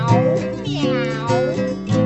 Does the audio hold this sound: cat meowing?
yes